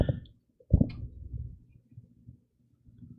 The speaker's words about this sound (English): No, it's my washing machine. Sorry. I didn't think it was picking it up.